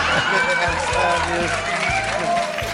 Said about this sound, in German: So einen Applaus haben wir auch gerne mal.